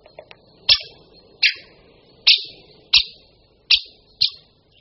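A series of six sharp, loud 'kik' calls from a great spotted woodpecker, evenly spaced about every 0.7 seconds, clear over faint background noise.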